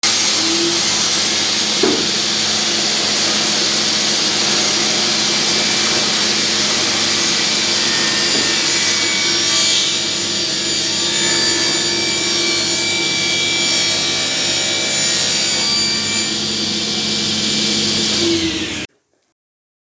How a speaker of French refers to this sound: car tous les meubles, planches et autres objets qui sortent de l'entreprise passent par cette machine. Elle assure une fluidité comparée aux autres scies.